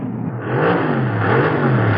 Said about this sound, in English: Driving too fast.